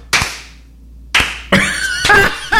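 A handful of scattered hand claps, about five sharp smacks spaced irregularly with pauses between them, thin and sparse rather than a full round of applause, with no voices.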